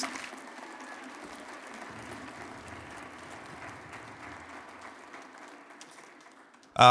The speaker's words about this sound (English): And as they do, would you give them a huge round of applause